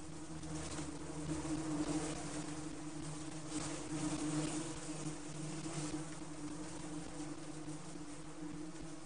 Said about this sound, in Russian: Не могла же Луша знать, что пчелки поют серенаду в честь дня рождения своей тетушки.